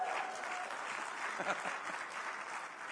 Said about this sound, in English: I love it when people cheer when you're getting older and older and older.